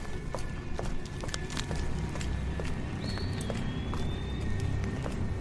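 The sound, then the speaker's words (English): A man following behind on a street makes a steady run of hard, sharp footsteps on pavement, evenly paced and slightly echoing, over a low background rumble, with a thin high whistle passing briefly midway. “But his footsteps echoed in my ears.”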